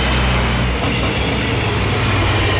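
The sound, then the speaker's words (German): A regional train on a test run rolls loudly through the new station in Marienau, a steady deep rumble with rattling carriages and clattering wheels filling the whole moment, no voices present. “Eine Regionalbahn fährt durch den neuen Bahnhof in Marienau.”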